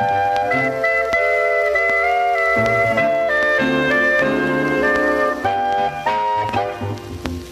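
An old 78 rpm record plays on a gramophone, a song's bright, melodic instrumental opening, with sustained tuneful notes and steady accompaniment at a full, even volume and no singing yet.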